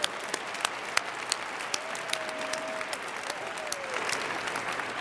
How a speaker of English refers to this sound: Graduates, let's have a round of applause for these people who made it possible.